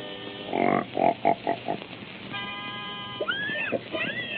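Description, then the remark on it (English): Mickey's singing pig, being got in pitch, gives a run of five or six short, rhythmic grunts, then a steady held tone, followed by a few rising and falling squeals, fairly loud, with no talking. “Wait till you hear my singing pig. First, I gotta get him in pitch.”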